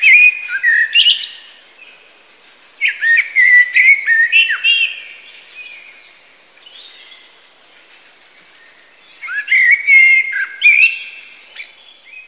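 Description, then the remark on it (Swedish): A common blackbird sings rich, fluting whistled phrases in three separate bursts with quiet pauses between them, clear, with no other sounds around. “Koltrasten.”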